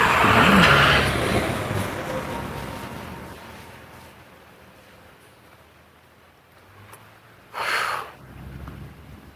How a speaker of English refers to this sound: School bus. Why is there a school bus? This is July. Why is there a school bus? Some sort of summer program, I guess.